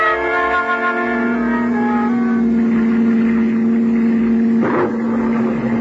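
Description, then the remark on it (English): A car engine drones steadily at high revs, loud, holding one strong pitch throughout with a brief rushing swell near the end, as the car races in driving rain along a narrow cliff road in the English countryside. No one speaks. “An hour later, you're racing across the English countryside, the rain driving against you as the car swerves perilously along the narrow cliff road.”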